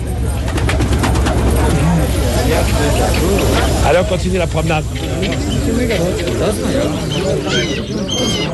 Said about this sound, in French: Ils jettent une poignée de graines à ces pigeons.